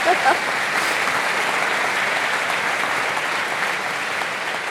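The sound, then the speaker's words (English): Steady, dense applause from an audience for a guest who has just finished a lightning round of questions fills the whole stretch at a fairly loud level, a continuous wash of many hands clapping with no pause; a brief voice is just audible at the start. “Let's give her a round of applause for getting through that lightning round.”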